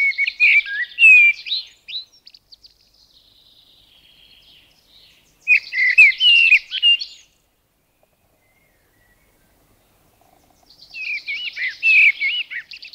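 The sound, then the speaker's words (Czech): Three bursts of a blackbird's song, each a few seconds of fluty, twittering warbles separated by quiet pauses, with no one speaking. “Mláďata kosu začínají zpívat již od 19. dne života.”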